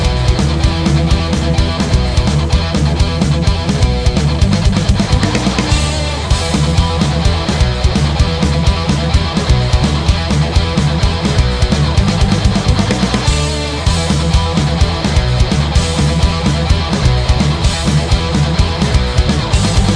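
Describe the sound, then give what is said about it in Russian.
A loud, dense hard rock instrumental intro by a Russian-language guitar rock band plays with driving drums and thick, heavy guitars. It stays full and steady throughout, with no vocals. “вещающая на родном русском языке и играющая на стыке хард-рока и музыкальной современности.”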